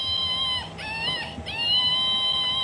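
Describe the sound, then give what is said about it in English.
A toy monkey, called the anxiety-producing monkey, at the Shanty of Misfit Toys in the Art Shanty Projects, lets out a weird, shrill electronic screech, a sustained high-pitched wail that wavers and dips twice before holding steady, with no talking over it. “And then there's a monkey that has a really weird screech to it.”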